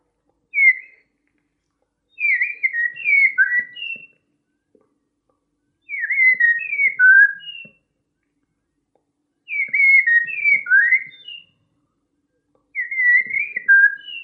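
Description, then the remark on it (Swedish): A person whistles an imitation of a common blackbird's song: four fluting, warbling phrases of about two seconds each, separated by short pauses, clear with no talking. “Koltrasten, Sveriges nationalfågel.”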